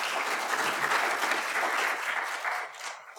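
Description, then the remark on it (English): An audience claps in a dense, steady burst of applause that holds strong for about three seconds, then thins and fades toward the end. No one speaks over it. “Let's give our people a round of applause, right?”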